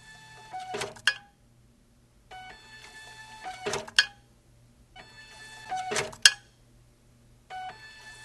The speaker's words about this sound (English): This horrible screeching sound that you hear 42,000 times, it took us about 2 weeks to print the season tickets, but in return for this sound, you get a ticket to the symphony and you get to hear this sound.